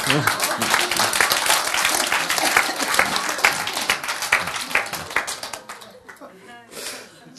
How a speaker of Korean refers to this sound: 박수, 박수.